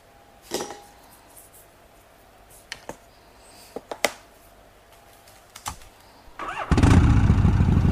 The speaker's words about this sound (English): Start your number 2 Harley.